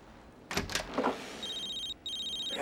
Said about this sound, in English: Distracted, he goes into the kitchen and picks up a phone. He calls his mobile, then hears it ringing in the adjacent bedroom.